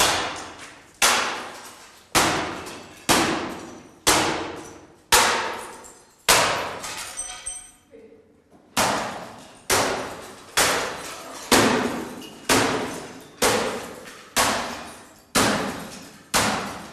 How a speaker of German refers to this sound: Ja, ja, die Axt. Ja, mit der Axt kann man gut spalten. Ja, spalte den Drucker.